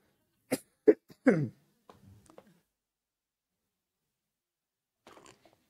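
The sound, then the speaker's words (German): A few sharp, loud coughs right up against the microphone, three quick bursts in a row, followed by faint shuffling and a soft rustle a few seconds later. “Ich dachte die ganze Zeit, das Mikro wäre hier und huste voll da rein.”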